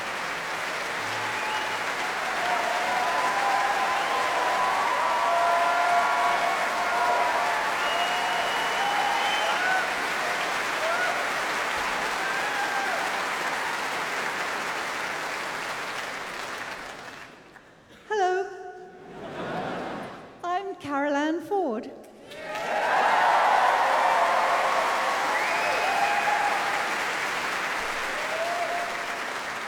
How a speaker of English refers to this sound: Now, applause for another early companion.